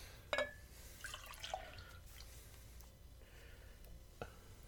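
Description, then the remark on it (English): Beer is poured from a growler into a glass, trickling and splashing in a soft fizzing pour broken by a few sharp clinks and drips. It stays fairly quiet throughout, with no voices. “That's not too bad. Topping off rather nicely.”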